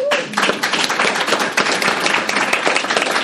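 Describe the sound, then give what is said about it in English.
A crowd applauds a panel at an event about starting a business, dense overlapping claps forming a steady, loud wash of sound for several seconds with no voices standing out. “Won't you guys give the panel a round of applause?”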